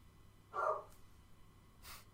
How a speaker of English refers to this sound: The dog's just barking downstairs. I don't know if someone's at the door or not.